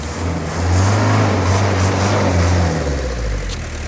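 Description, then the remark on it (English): The motor of a vehicle a team is building to float revs loudly: a deep throbbing drone that swells in pitch, holds, then drops back off near the end. No one speaks. “Time to put their motor on a crash diet.”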